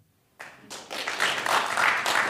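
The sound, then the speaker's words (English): An audience breaks into applause after a moment of quiet, clapping to vote for global justice as the top goal of the United States' role in the world; the clapping swells quickly into a steady, dense patter of many hands that holds at a moderately loud level. “think about the United States' role in the world, you think principally about global justice, that will be the second option to clap.”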